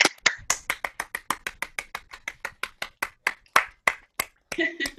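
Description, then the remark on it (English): Six people on a video call unmute and clap for the attendees, a quick run of sharp, uneven claps for about five seconds with a slightly compressed, call-like quality, and a faint voice near the end. “So if we can unmute ourselves, we can clap, right?”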